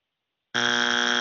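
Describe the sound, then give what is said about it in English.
A game show wrong-answer buzzer sound effect blares suddenly after a beat of silence, marking a contestant's wrong number pick in a car-pricing game: a loud, harsh, steady electronic honk that holds without wavering until the end. “Buzzer.”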